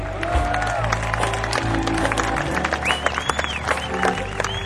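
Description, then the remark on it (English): A crowd cheers and yells over dense clapping, with shrill rising whistles and whoops cutting through in the second half; the noise stays loud and continuous throughout. “Give him one more yell for me.”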